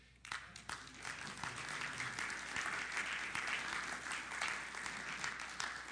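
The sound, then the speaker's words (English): A church audience applauding steadily to welcome a new member, a dense, sustained patter of many hands clapping at once that starts abruptly and continues at an even level throughout. “Well, I was going to say three cheers, but I guess a hand clap is good enough.”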